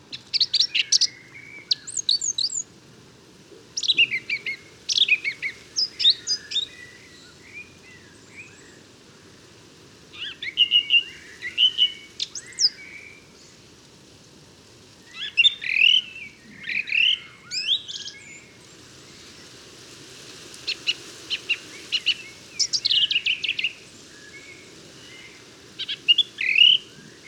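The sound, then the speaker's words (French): A song thrush sings alone in bursts of sharp, high, whistled phrases, each note or motif repeated several times, with short pauses between phrases and a faint steady background hum beneath. “Voilà, c'est un sifflet beaucoup plus agressif, plus aigu et avec des notes répétées.”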